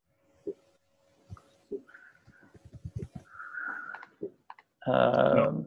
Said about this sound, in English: I should probably stop typing for that one so I can talk about that one.